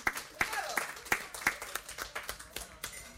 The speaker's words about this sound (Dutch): Ja, klapt u maar even voor haar, want dat is